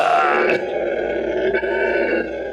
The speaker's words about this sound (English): Geordie the howler monkey. Al found him in an Animal Kingdom in Florida. And it's got this long, raspy bellow, this...